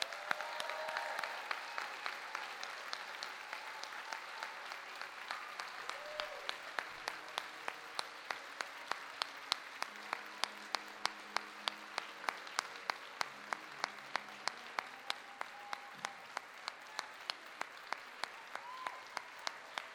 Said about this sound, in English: For your hard work and dedication, we give you a big round of applause. So thank you.